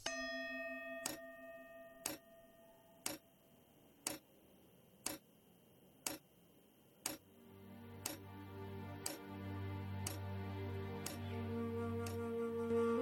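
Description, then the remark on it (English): A clock ticks steadily about once per second, each tick a crisp click. A fading chime rings at the start, and a low sustained musical drone rises beneath the ticks in the second half. “The tick-tock of the clock shows clearly the passage of my life.”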